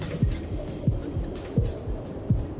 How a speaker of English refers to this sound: I gave him a heartbeat.